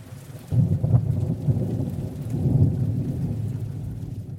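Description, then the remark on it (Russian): A heavy downpour roars steadily, dense rain hissing over a deep rumbling low end that swells after a quiet start and stays loud throughout, with no voices. “Там страшный ливень!”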